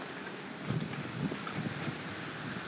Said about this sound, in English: Whoa. Hear that? Whoa, everything's moving out here. Yeah, I love the excitement of wind and rain and storm.